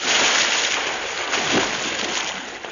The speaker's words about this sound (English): He's fallen in the water.